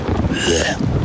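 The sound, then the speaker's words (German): A steady wash of rain fills the short stretch, a dense, continuous hiss with a low rumbling undertone, fairly loud, with no voices. “Regen.”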